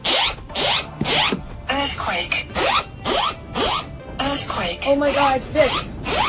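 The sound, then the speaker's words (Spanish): A Japanese earthquake and tsunami alert alarm, as it sounded live for a Japanese YouTuber during a livestream after a magnitude 7.6 earthquake in northern Japan, sounds in rapid, repeating harsh bursts, each with sweeping, warbling tones, loud and insistent throughout. “Esto que van a escuchar es como le ha sonado en directo esa alerta a un youtuber japonés mientras hacía un directo.”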